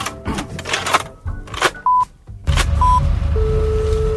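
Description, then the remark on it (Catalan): A phone being dialed: rapid clicks and short keypad tones, followed by a steady dial or ringing tone that holds on toward the end. No voices, clear. “Bueno, vam començar trucant el número des d'on va ser enviat el missatge. Fixa't. Endavant, tal trucada telefònica.”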